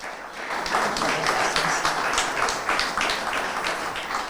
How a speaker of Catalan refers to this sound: Benvinguda, un aplaudiment per l'alcaldessa.